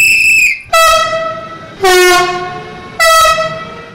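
A train horn blares in four long, loud blasts, each about a second, with a bright, brassy chord that shifts pitch between blasts over a low rolling rumble of the moving train. No one speaks.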